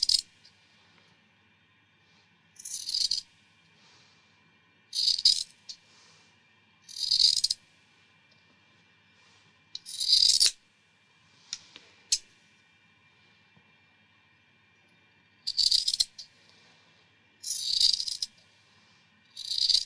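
Crisp scissor snips come in short bursts every couple of seconds, each a bright metallic slicing rasp. Quiet pauses separate them, and no one speaks.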